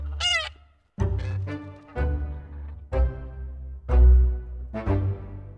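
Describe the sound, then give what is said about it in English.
A goose honks repeatedly, about half a dozen loud, nasal, harmonic calls at uneven intervals, over a low rumbling background with no talking. “looking quite disheveled and clutching a featherless goose tight to his chest.”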